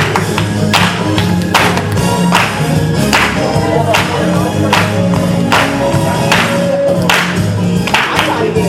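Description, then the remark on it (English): A worship audience claps in steady unison on the beat, sharp rhythmic claps roughly twice a second, over loud ongoing worship music with sustained low tones and a driving groove. “Get your clap on.”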